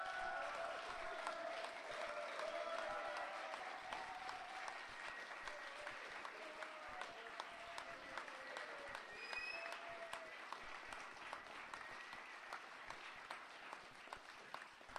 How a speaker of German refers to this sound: Bitte Applaus jetzt!